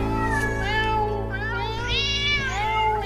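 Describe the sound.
A voice shouts "meow," mimicking a cat with loud, drawn-out meows that rise and fall in pitch over about three seconds, over a steady low hum.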